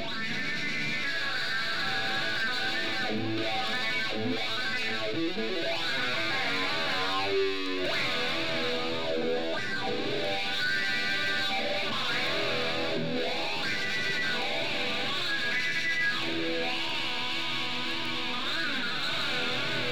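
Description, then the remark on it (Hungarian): A heavily distorted electric guitar plays continuously, its tone swept by a swirling flanger effect that creates whooshing, comb-like shifts; loud and dense throughout, with no talking. “Ebben a hangzásban az elektromos gitár hangját torzító flanger és harpi módosítja.”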